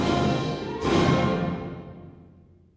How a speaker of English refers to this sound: More of the bell tone accents. More chimes.